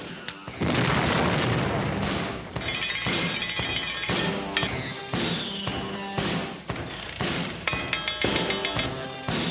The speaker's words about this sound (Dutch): Nou, ome Henk, die eindigt zijn verhaaltjes altijd met een hele grote explosie.